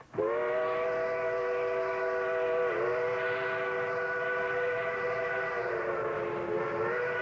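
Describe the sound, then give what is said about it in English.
A steam locomotive railroad whistle, taken off one of the old reeder engines, blows one long, unbroken blast, a loud, rich, chord-like tone that holds steady for about seven seconds with a couple of slight sags in pitch. “Now, that's a steam railroad whistle, and it's taken off of one of the old reeder engines, and I love steam whistles from locomotives.”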